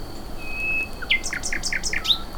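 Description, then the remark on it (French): A nightingale sings by an alley where luxury second homes border a forest: a thin, sustained whistle, then a quick run of about six repeated two-pitched chirps, clear and alone over a faint steady background hiss. “le rossignol Philomène commence à chanter.”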